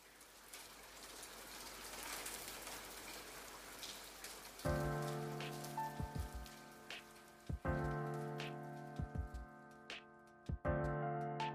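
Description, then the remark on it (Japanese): Steady rain patters down in a dense, even hiss. About halfway through, a low sustained tonal drone joins the rain, punctuated by a few sharp knocks. “それからも彼女は雨が降るたびに部屋を訪れた。雨雲が彼女を連れてくるように。”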